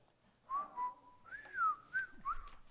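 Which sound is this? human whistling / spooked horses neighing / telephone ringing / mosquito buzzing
human whistling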